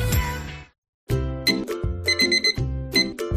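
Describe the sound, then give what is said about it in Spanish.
After a short burst and a moment of silence, a bright electronic alarm tone from an alarm clock rings out in quick, repeating chiming notes, loud, with no voices. “¿Que suena el despertador?”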